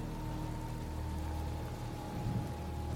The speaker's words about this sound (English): As the rains, the waters from heaven cascade down, you can feel the energy of water the vitality of water.